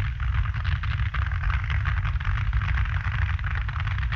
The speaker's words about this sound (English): obviously loaded the motor a little to try and get better time. It's sounding very, very lumpy out there.